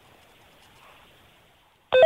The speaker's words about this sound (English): What is it? What is that? A two-way radio.